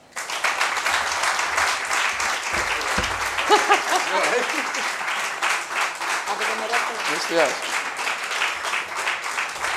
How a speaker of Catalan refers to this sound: I a tots vosaltres, un fort aplaudiment en Luismi.